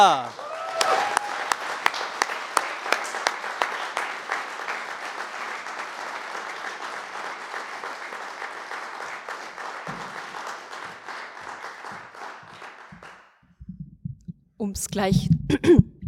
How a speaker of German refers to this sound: Ich möchte, dass ihr sie jetzt mit einem riesigen, einem lauten, einem unfassbar enthusiastischen Applaus auf die Bühne klatscht.